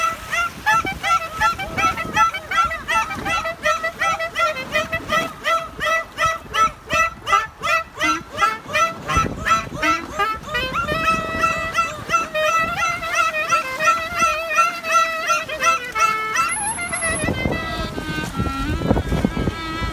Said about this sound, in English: So, as a compliment to that, we're going to play now a recording of a man playing klezmer music to dolphins. And the dolphins, I don't know if they like the music, but they are very keen on participating with him.